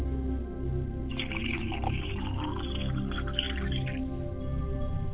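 Libations are poured steadily onto the ground for about three seconds to purify it, a soft splashing trickle over a low, constant background hum, with no voices.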